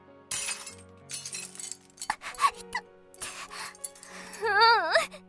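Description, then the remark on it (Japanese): Glass is smashed with a large stone, shattering in a series of harsh crashes and tinkling bursts over several seconds, and a voice cries out near the end. “石。大きな石は？割れた。”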